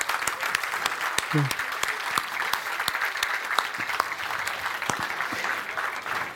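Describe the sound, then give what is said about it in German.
An audience claps steadily for several seconds, welcoming a volunteer coming up onto the stage: a dense, sustained patter of many hands with sharp individual claps standing out, and a brief voice rising through the applause. “Ein Applaus.”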